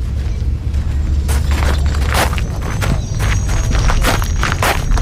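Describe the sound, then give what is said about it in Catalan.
Footsteps crunch over gravel at a steady walking pace, fairly loud, about a dozen steps over a low constant rumble, with no voices, as a person is escorted on foot about 50 metres from camp 5 to camp 6 of a facility. “Trepitjant el pedrís, ens rep el tinent general Jeff Harris”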